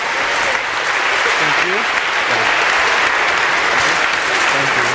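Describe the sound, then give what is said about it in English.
Steady applause from an audience for a group who have just appeared on stage fills the whole five seconds, a dense, even wash of clapping with faint murmuring voices mixed underneath. “So maybe if we could humor them, if only because I'm feeling a little awkward now, a little round of applause for these guys here.”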